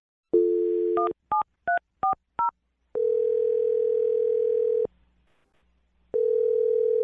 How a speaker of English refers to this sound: Well, I'm going to dial his phone number now, okay? Okay. All right, here we go.